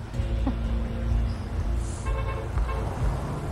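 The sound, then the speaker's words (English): A chauffeur-driven car carrying Eric Morley, founder of Miss World, and his wife idles and rolls up outside a theatre amid steady low traffic rumble, with a short horn toot partway through and faint street bustle around it. “Mr. and Mrs. Morley arrive outside the theatre in their chauffeur-driven car.”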